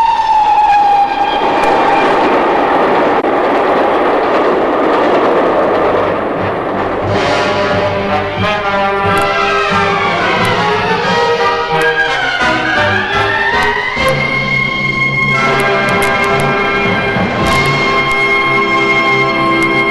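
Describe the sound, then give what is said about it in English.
A train thunders into a station platform, loud, with a rising roar, screeching metallic brake squeals sliding in pitch, and clattering wheels that stay steady through the whole stretch; no one speaks. “The train roared into the platform.”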